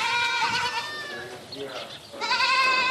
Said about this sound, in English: Kibbutz business manager Shmuel Boglasowski is checking in on the dairy goat shed, where newborns are playing on scattered straw and munching on food pellets.